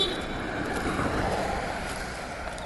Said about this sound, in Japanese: あ、今も危うく車と車が衝突しそうになりましたけど、僕の目の前でね、点滅信号でもう歩道を乗り上げて、歩道から飛び出しかけとる車にぶっぶって今、クラクション鳴らして車が通り過ぎましたけども